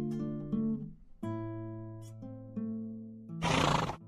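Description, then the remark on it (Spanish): A horse neighs loudly, a long wavering whinny that rises and falls in pitch for several seconds, then ends with a harsh, breathy snort. “Se aproxima al caballo y toma presto la espada en 100 combates ganadora, que a su cintura ciñe.”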